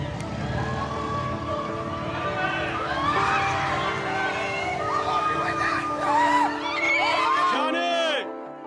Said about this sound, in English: They hold placards and cheer as he drives by, waving from his blacked-out car.